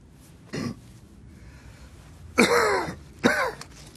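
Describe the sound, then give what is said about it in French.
A short cough comes first, followed by two harsher, longer bursts of throat clearing, each with a rough, rasping edge, loud against a quiet background, with no talking. “J'ai passé la nuit à tousser.”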